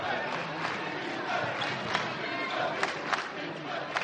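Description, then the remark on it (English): A packed, standing-room-only crowd roars and cheers continuously at a college basketball game in Patrick Gymnasium, during a University of Vermont win over division rival Stony Brook: a dense wall of voices with occasional sharper shouts and claps rising above the steady din. “The standing room only crowd at Patrick Gymnasium went crazy during a recent UVM win over division rival Stony Brook.”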